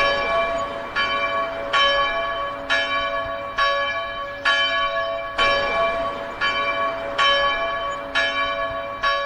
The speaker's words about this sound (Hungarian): Július 31-én pénteken este az Összetartozás templomának harangja jelezte, hogy sor kerül az új állandó szabadtéri kiállítási installáció ünnepélyes átadására.